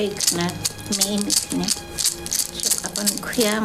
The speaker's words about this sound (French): la petite vieille, elle va prendre son hochet, et là, elle va commencer à bénir Steven avec son hochet